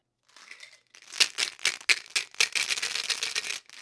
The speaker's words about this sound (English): A game of dice, 5 of them, in a cup. Now is the cup to make it easier to roll 5 dice at a time?